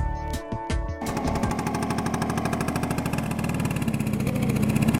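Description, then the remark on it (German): A motor scooter engine sputters briefly, then settles into a loud, rapid, rattling buzz as it rides along steadily, cutting off abruptly at the end as the scooter crashes into a post. “ich habe einen Pfosten gerammt. Oh Mann, Anja, dein Motorroller ist Schrott”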